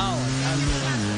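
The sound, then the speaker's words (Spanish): A voice mimics a motorcycle engine revving and pulling away, a steady buzzing drone with a rising whine, fairly loud for about a second. “Voy a dar la rueda de prensa, aquí tengo la moto lista.”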